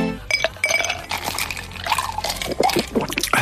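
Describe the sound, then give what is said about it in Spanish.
A cold drink pours into a glass over ice, with bright clinks of ice cubes against the glass and a steady liquid splash, fairly loud, no voices. “Lo que tardas en beberte una bebida bien fresquita, con sus hielos, cuando estás en pleno verano y a 40 grados a la sombra”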